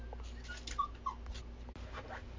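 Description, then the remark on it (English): A female pet dog at home barks in the background, a few short, high-pitched yelps and whiny yips in quick succession over faint room noise, with nobody speaking. “You'll hear my doggy barking in the background.”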